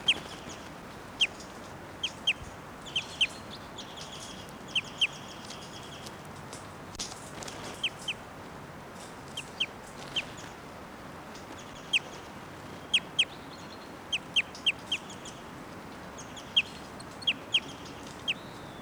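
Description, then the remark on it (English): A caged female bird, number 687, gives short, high-pitched chip flight calls, singly or in quick pairs and threes, spaced irregularly over steady background hiss with no talking. “Now in 687's cage, and 687's giving some flight calls.”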